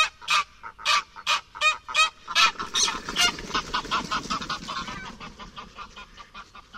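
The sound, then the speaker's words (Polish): A gander (male goose) honks in a rapid series of loud, harsh calls, about a dozen in quick rhythm, then the calls blur into a noisier, rougher chorus that gradually fades. “W obecności innego samca gąsior wydaje dłuższe, ostrzejsze i bardziej przenikliwe dźwięki.”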